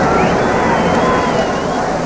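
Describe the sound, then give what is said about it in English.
A loud, steady roar from a celebrating street crowd in Central London, countless voices merged into one continuous wash of noise, with no single speaker standing out and no pause. “Terrific excitement with the crowd. And as for the noise of it, well, listen for yourselves to Central London's DJ Roar.”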